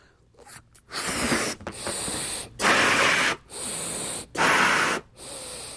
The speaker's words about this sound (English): This is an old Tech TV balloon, just as your standard balloon, and then you blow it up.